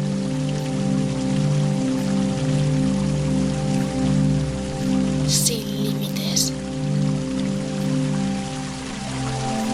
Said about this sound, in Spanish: Ahora enfoca tu mirada en el agua de la fuente.